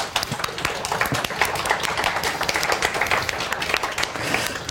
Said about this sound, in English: Can we do like a quick round of applause?